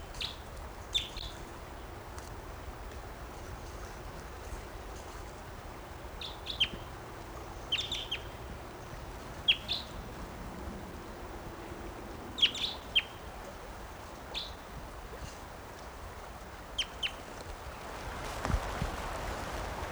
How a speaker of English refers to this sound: Here's that bird again. Wild. Stop. I'm recording that bird.